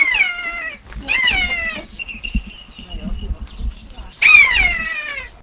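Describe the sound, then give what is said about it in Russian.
A young common buzzard, a forest bird of prey of the hawk family kept in an aviary in a small courtyard garden, gives three loud, plaintive mewing cries, each drawn out and slightly falling, with a thin faint whistle and low rumbling filling the pauses. “Чак – конюк или сарыч – хищная лесная птица семейства ястребиных, крик которой напоминает плач.”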